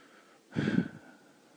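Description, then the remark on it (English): A single heavy, forceful breath lasting about half a second, rough and breathy with a low rumble, bursting out of near silence and then fading back to a quiet hiss. “The urgent rise and fall of my breathing.”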